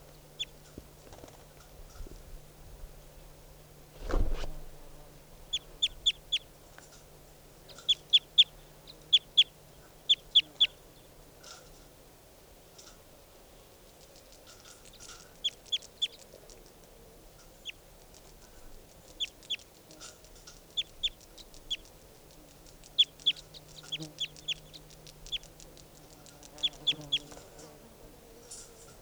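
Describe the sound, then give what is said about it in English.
Bird calls: short, high, sharp chirps come in quick bursts of two or three, repeating throughout over a low steady hum, with a single dull thump early on. “Recording bird.”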